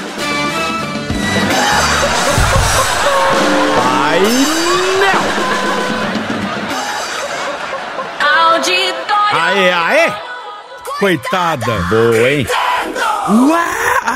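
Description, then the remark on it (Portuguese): A loud group of people shouts and cheers together, voices overlapping in a continuous roar, with individual whoops and yells rising out of the crowd toward the end. “Gritando!”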